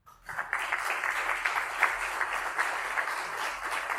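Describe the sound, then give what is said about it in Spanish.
A crowd at a Cartagena event breaks into sustained applause, a dense, steady wash of many hands clapping at fairly even loudness for several seconds, with no voices standing out. “Le podéis aplaudir.”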